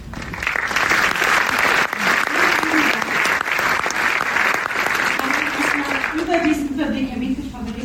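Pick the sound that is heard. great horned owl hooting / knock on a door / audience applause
audience applause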